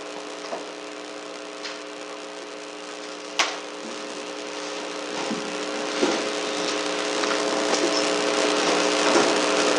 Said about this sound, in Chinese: 好，没有不清楚的地方，我们弟兄姊妹就可以把这个椅子摆一摆，围成一个圈，我们就可以一起来分享讨论。